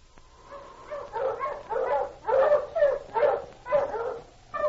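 A pack of sled dogs barks and whimpers excitedly, a rapid series of overlapping yelps and whines rising and falling, with no talking.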